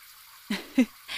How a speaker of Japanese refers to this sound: よし、最後仕上げ。全体を揉みながら押してくよ。最後にシャワーで流すな。